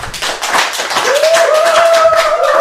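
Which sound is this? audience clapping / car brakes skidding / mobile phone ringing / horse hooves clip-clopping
audience clapping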